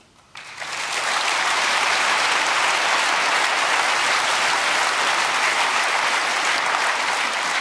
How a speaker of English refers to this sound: I want some applause for Blackwing and Alf for doing all the load balancing, because they did that really well, as you can see.